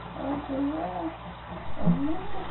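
A cat yowls in long, wavering, pitch-bending cries, two drawn-out calls with a short lull between, sounding muffled as it comes from under a house.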